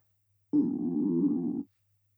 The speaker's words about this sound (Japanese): 今のって、あなたのお腹が鳴った音？もしかして、お腹空いてるの？